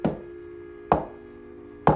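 Three sharp knocks on a kitchen counter, evenly spaced about a second apart, each a short hollow rap over a steady, faint electrical hum with no voices.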